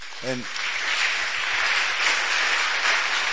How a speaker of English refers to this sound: Please clap for those standing